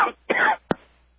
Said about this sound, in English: Oh, forgive me, folks. I'm not over the cough yet, as you can see.